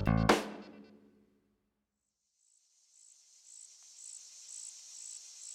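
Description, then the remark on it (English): After a resonant hit rings out and fades to silence, crickets start up on a hot summer day, a steady high-pitched chirring with regular pulses that carries on at moderate volume, with no voices. “We hear the sound of crickets on a hot summer day as we find our three adventurers walking down a familiar path”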